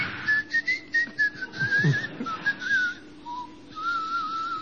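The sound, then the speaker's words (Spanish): A thin, high whistling sound wavers and slides in pitch over several seconds, broken into short pulses at first and then held longer, with a soft airy hiss underneath. “Pero digo, uno escucha en el silencio de la noche, de pronto, aquel el chiflete.”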